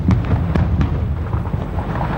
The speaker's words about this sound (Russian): Они не успевают даже зайти во внутренний двор, как внезапно раздается невероятный по силе взрыв.